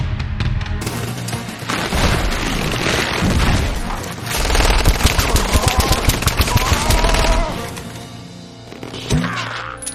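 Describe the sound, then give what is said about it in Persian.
Loud, sustained gunfire: rapid automatic bursts rattle almost nonstop for about ten seconds, mixed with heavy booms and impacts, dense and close with no break. “تو زده گلوله ای؟”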